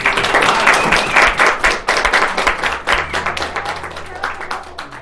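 A crowd applauds steadily for a contestant's good answer, dense overlapping hand claps filling the whole clip and tapering slightly toward the end, with a faint low hum underneath.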